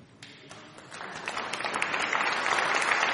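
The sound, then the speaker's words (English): An audience breaks into applause, scattered claps at first that quickly build into dense, steady clapping, growing louder throughout with no voices heard. “With applause.”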